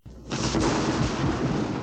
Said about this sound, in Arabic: الرعد هو مجرد صوت تسمعه قادما بسرعة شديدة من السماء. ولكن يا ماما، لماذا هكذا يكون صوته مخيفا؟ هو ليس مخيفا، لكنك أنت من تخاف منه.